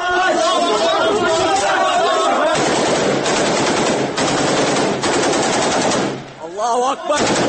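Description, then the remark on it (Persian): Men shout loudly, then a long burst of rapid automatic gunfire rattles on for several seconds before the shouting voices return, in an amateur video of Syrian rebels shooting captured soldiers forced to lie on the ground. “در این تصاویر سربازان مجبور می شوند روی زمین دراز بکشند و سپس به ضرب گلوله کشته می شوند”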